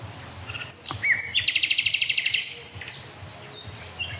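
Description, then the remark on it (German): Two nightingales singing, one heard from the left and one from the right, with sharp whistles and chirps followed by a fast, loud trill of about a dozen evenly spaced high notes, then softer scattered calls over a low background murmur. “Also ich glaube, die beiden Nachtigallen sind deutlich wahrzunehmen.”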